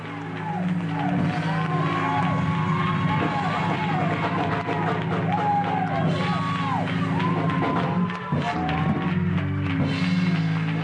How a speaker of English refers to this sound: Let's do it with a holy hand clap. Say hallelujah.